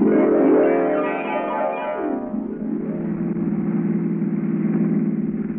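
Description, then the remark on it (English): A car engine hums steadily as the car is driven around the countryside, its pitch sliding down over the first couple of seconds before settling into an even, continuous drone. No voices are heard. “Using the judge's car and gas, she carted me all over the countryside looking for my opportunity, never guessing that as far as I was concerned, she was it.”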